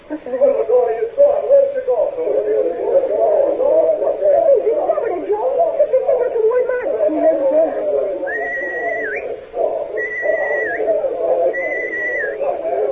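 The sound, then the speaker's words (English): Three sustained, evenly spaced whistle signals, each a steady high tone lasting about a second and flicking upward at the end, sound over a continuous murmur of voices. “Marty McDonald heard those whistle signals”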